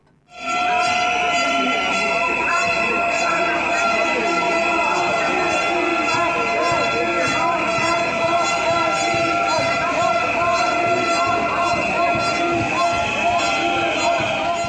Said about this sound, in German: Das waren Pfiffe von den Gegner und Gegnerinnen des christlich-fundamentalistischen Marsch fürs Leben.